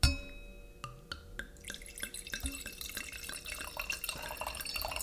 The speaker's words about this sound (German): Ja, und es läuft, ohne zu viel zu verraten, tatsächlich schon was Bernsteinfarbenes ins Glas, ja. Terra Ambera ist ein Natural Orange Wein aus der ganzen, Griechenland ist sehr, auch aus einer Region mit einer geschützten Ursprungsbezeichnung